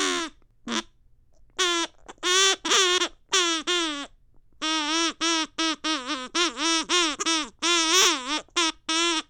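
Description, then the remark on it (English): A rapid string of nasal, duck-like quacks in uneven bursts, some short and clipped, others drawn out and wavering in pitch, loud and continuous with only brief pauses. “Let's see what the duck is says.”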